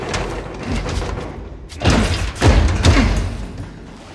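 Locked doors of a building rattle and thud as their handles are yanked, a run of clattering knocks that builds into several heavy thumps before easing off. No one speaks.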